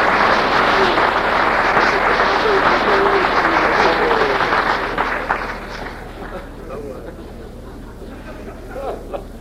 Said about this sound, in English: Give me a good hand clap. That's true.